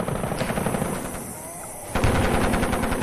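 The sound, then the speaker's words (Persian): Sustained bursts of machine gun fire, opened with mortars on landing helicopters during the Vietnam War battle at Ap Bac, crackle in rapid, regular succession, pausing briefly before resuming loudly, with no voices present. “همون موقع که فرود اومدن ما با خمپاره و تیربار آتش گشودیم و همه‌شون رو نابود کردیم.”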